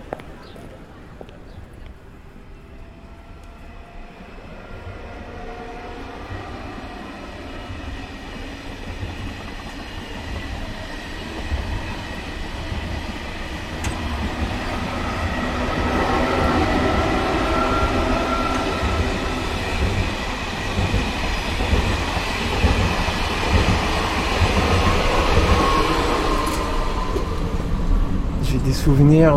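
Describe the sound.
Steady low rumble of a moving train heard from inside a carriage, growing louder midway as rhythmic wheel clatter and rattling join in, with faint muffled voices underneath.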